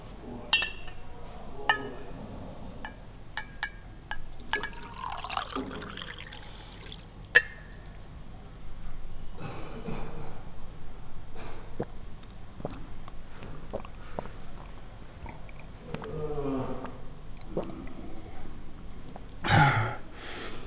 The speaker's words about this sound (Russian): Целый стакан выдул. И пить-то вроде не хотелось.